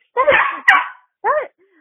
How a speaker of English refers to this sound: My dog's barking at me.